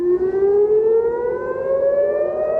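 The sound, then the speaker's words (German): A civil defense air raid siren wails in Israel shortly before 3 a.m., waking people as the Israeli army attacks Iran; its tone slowly rises over a few seconds, loud and sustained with a faint background rumble and no voices. “Mit Sirenengeheul wachen die Menschen in Israel um kurz vor 3 Uhr morgens auf.”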